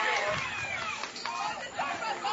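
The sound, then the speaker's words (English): A loud baseball crowd at a game between Grimes/Columbus and Washington County cheers and jeers, with cheers from the Grimes and Columbus side and jeers from the Washington County side, a steady wall of overlapping shouts and voices that swells and dips slightly without pause across the whole stretch. “This game getting nice and loud from both crowds”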